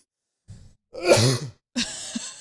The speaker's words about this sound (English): I feel like we need to have like a cough alert.